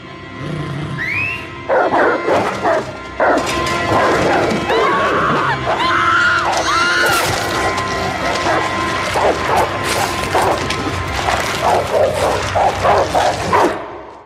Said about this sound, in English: the sound, of course, of a baby getting ripped apart by dogs, which is the signature sound of this episode. Let's hear that.